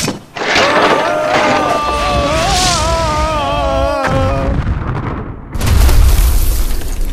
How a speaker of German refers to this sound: Oh verdammt, Point Dread ist in 1000 Stücke zerbrochen.